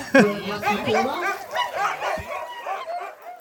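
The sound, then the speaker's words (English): A chorus of excited sled dogs eager to run, barking, yipping and howling all at once, a dense overlapping clamor that stays loud and continuous throughout, with high pitched yelps rising above the din. “You can just see the excitement that they have and the drive they have to run.”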